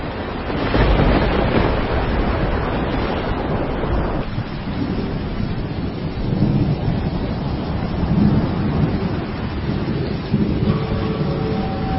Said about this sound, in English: A furious squall came up, and the waves broke over the boat so that it was nearly swamped.